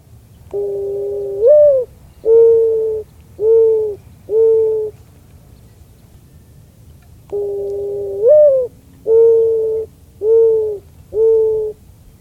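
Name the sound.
mourning dove cooing call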